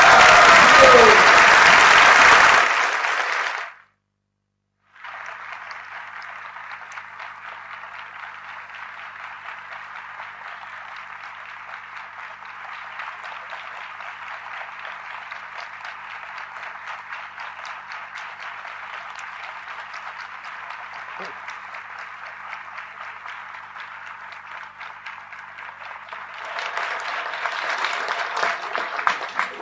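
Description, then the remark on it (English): Sustained audience applause for Radha Gopinath, dense and steady, continuing for well over twenty seconds after a brief pause, then swelling louder near the end. No one speaks over the clapping. “My prayer is I become 10 million times happier when everyone claps for Radha Gopinath than if you clap for me.”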